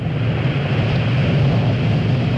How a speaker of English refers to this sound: And we're just about to hear the rumble of the engines in just a moment or two as the sound reaches us. Challenger now heading downrange. Here's that rumble.